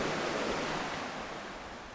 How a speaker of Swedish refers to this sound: Ja, här är ganska bra höjdskillnad, så det är, den här forsen den avgör nog inte den här avrinningen på det här området. Så. Man ser riktigt hur det bubblar och har sig där i vattnet.